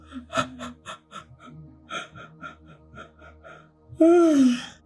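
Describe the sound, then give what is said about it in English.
A loud, breathy yawn with a drawn-out voiced groan that rises and falls, coming right after a stretch of soft murmured vocal sounds. “just feel into anything in the throat around communication as I'm just talking and yawning and doing my weird noises.”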